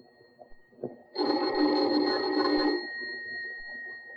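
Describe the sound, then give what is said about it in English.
A doorbell rings once in a loud, sustained buzzing burst lasting about a second and a half, with a faint steady whine lingering before and after. No one speaks. “Let's begin this tale with the ringing of a doorbell.”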